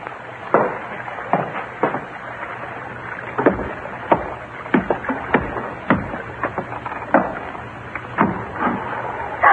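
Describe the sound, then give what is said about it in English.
A small boat bumps and knocks against a hull as it ties up alongside, with irregular wooden thuds and creaks over a low steady background hum, no voices. “Yeah, small boat just tied up alongside.”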